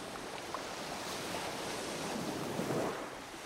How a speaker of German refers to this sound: Der weite Sandstrand liegt halb rechts vor mir. Links das Meer. Ich gehe im Wellenbereich barfuß den Strand entlang. Einmal mehr, einmal weniger spülen die Wellen an den Strand und kühlen meine Füße und Unterbeine.